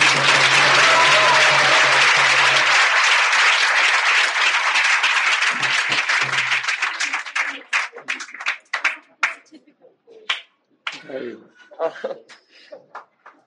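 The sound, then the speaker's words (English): An audience breaks into a sustained round of applause to thank their teacher, dense and loud for several seconds, then thinning into scattered individual claps before fading out. “And I would particularly like you to thank your teacher by just joining each one of us in just a round of applause.”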